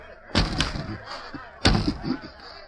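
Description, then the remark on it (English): Bound hands pound on window glass in two heavy bursts separated by a pause, each a loud thump trailed by smaller rattling knocks, with no voices. “Fairchild turned his back to the window and with his bound hands beat on the glass.”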